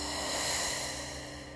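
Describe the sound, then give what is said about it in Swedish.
A long, steady exhale of breath during a guided breathing exercise, a soft airy hiss that swells early and then gradually tapers off, with no talking. “Och andas ut.”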